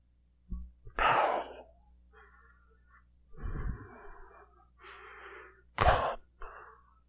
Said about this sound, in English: Just keep listening. The breathing is the caller.